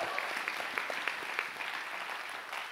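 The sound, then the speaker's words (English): An audience claps hands together in a church sanctuary, a steady, dense patter of many overlapping claps at moderate volume with a faint background murmur. “If you receive that one more time, let God's hand clap, fill this sanctuary.”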